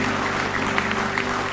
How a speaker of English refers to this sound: give him a hand clap of praise this morning.